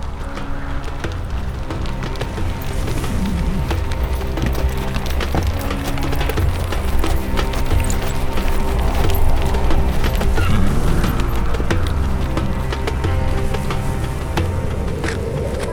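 Steady clip-clop of a ridden horse's hooves at a walking pace, continuous, with a dense rustling, creaking ambience of wood and tack around it.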